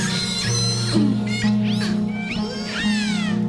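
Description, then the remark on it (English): Whale calls picked up by a hydrophone: a run of shrill, metallic squeals and screams that swoop up and down in pitch, overlapping one another above a steady low droning hum, with no voices. “The other kind of sounds that the whales make, these very shrill, metallic-sounding squeals and screams, tend to be for communication between individuals in a group and between groups.”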